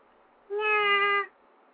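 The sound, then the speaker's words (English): A single drawn-out meow from a female cat that has just come in, clear, holding a steady, bright tone for under a second against a quiet background with no talking. “Meow. Meow. Oh, she came in.”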